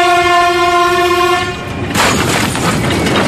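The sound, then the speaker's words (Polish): In a staged level-crossing crash simulation, a train horn blares loudly for about a second and a half, then cuts off into a harsh, sustained crunch and rumble as the train, moving at very low speed, slams into a car. “W rzeczywistości zazwyczaj ta prędkość pociągu jest zdecydowanie większa.”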